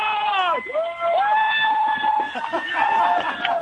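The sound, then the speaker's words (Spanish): Spectators at the New York City Marathon cheer and shout, with long, high-pitched yells and whoops rising and falling over a steady roar of crowd noise, loud throughout. “Aquí está la gente como loca, tú.”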